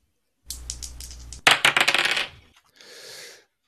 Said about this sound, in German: Und ich würde sagen, wir lassen mal die ersten Würfel rollen und gucken mal, was dann dabei rumkommt.